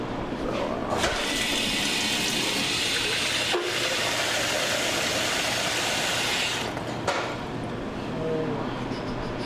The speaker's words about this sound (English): First things first, let's shred a potato into some cold water and let's rinse the starch off a little bit. Let it sit for 10 minutes.